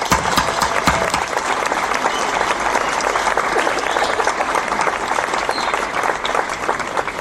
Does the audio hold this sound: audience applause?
yes